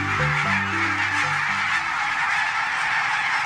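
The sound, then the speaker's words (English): A flock of barnacle geese honks in a dense, overlapping chorus, many yapping calls layered over a steady wash of noise, the clearest honks crowding the first second or two. “Barnacle geese are stunning birds.”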